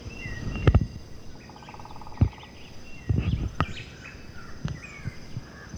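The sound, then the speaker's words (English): A white-chinned thrush sings faint, scattered whistled phrases over a steady high insect hum, broken by several sharp, loud low thumps and clicks. “There's also the white-chinned thrush singing, the black-faced grass quit, the yellow-shouldered grass quit.”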